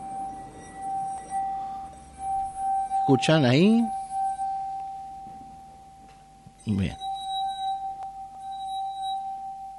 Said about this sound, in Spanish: al frotar nuestro dedo por el borde de la copa, podemos lograr que la copa vibre con frecuencias determinadas. Remojar el dedo con agua nos permite aumentar el rozamiento y conseguir de mejor manera los sonidos.